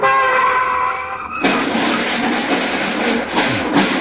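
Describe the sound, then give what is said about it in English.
A loud squeal of skidding tires gives way to a heavy crash as a Cadillac and a Chevrolet collide, followed by several seconds of crunching, clattering metal and debris. “But did you notice that Cadillac is wearing an off-the-shoulder Chevrolet?”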